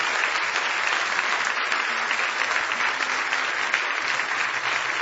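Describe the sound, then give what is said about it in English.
An audience claps hands in praise of the Lord, a dense, steady wash of loud applause that holds at an even level for several seconds with no one speaking over it. “Now give the Lord a big hand clap of praise if you love Him.”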